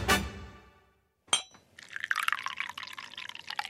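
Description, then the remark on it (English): A teacup rings out with a bright clink that fades, a second sharp tap follows after a pause, and then liquid pours steadily with a bubbling splash: a cup of golden, steaming Armenian herbal tea on a fresh day. “Ah, a cup of Armenian herbal tea, golden in colour and steaming on this fresh day.”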